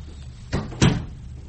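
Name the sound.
door being shut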